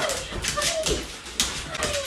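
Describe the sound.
A large dog whimpers and whines excitedly in short, high-pitched bursts, close by, with rustling movement and faint indistinct voices in the background.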